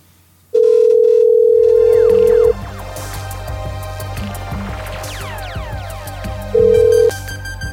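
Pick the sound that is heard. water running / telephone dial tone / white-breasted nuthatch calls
telephone dial tone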